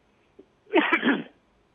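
One short, harsh throat clearing, fairly loud, lasting about half a second, with quiet before and after and no talking. A speaker on a call clears their throat after trying to mute the microphone.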